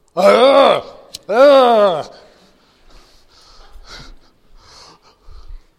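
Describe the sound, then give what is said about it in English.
A voice imitates a fire-breathing dragon with two loud, drawn-out roaring growls, followed by softer breathy huffs and gasps trailing off. “Wait a minute. Fire breathing dragon.”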